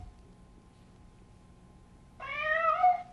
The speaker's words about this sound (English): And there's a cat. Here's the one for the cat.